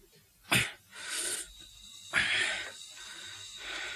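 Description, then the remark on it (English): Labored, wheezing breaths of a sick patient receiving oxygen rasp in a slow repeating cycle, each harsh intake followed by a noisy, strained exhale, with no talking. “He's got hardly any breathing area.”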